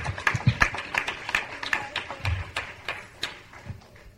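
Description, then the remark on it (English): A group of people claps their hands together in steady, overlapping applause in praise of the Lord, lasting several seconds and gently tapering off, with no voices heard over it. “Give the Lord another head clap of praise.”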